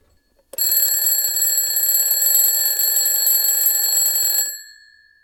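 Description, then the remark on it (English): The analog bell of a battery-driven alarm clock in a bedroom rings loudly and continuously for about four seconds, a bright metallic clatter with sustained high ringing tones, then cuts off abruptly and fades. “We have an analog alarm clock, which is actually battery-driven, but has an analog bell in it.”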